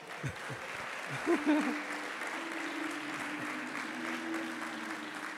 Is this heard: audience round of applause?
yes